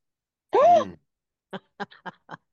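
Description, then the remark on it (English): A person lets out one sharp, voiced gasp, its pitch rising then falling, followed by a few short, quieter vocal bursts. “Why are you gasping?”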